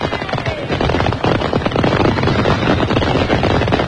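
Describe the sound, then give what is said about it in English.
Fireworks exploding in a loud, continuous barrage of rapid crackles and sharp pops, densely packed with no pauses and no voices over it. “And please remember at home, ladies and gentlemen, fireworks are the redneck's friend.”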